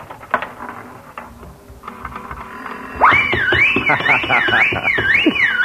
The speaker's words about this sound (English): Well, it's the first time I ever hit the jackpot.